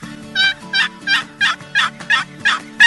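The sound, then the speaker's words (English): A one-piece box call sounds a steady series of about eight basic turkey hen yelps, each a raspy high-to-low note, evenly spaced, with no talking. “Basic hen yelp, high-low.”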